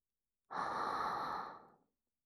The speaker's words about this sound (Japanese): ちなみに吐息の音だけど、攻撃前の息を吸う音は聞いても問題ない。